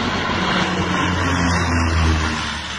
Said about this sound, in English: Planes carrying fire suppressant flew over the hilly terrain.